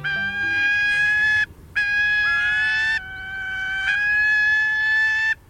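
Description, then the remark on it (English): A gyrfalcon gives three loud, drawn-out, harsh wailing calls, each steady in pitch and rich in overtones, separated by brief pauses, with the last call the longest. No one speaks. “Gyrfalcons are majestic birds.”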